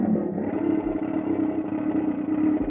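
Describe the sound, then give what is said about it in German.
A harsh, rasping mechanical croak drones steadily, thick with gritty low and midrange buzz and a few faint clicks: the Cracciatore (croaker), one of Russolo's intonarumori, noise-making boxes fitted with sound horns, grinding on without pause. “Cracciatore. Krächzer.”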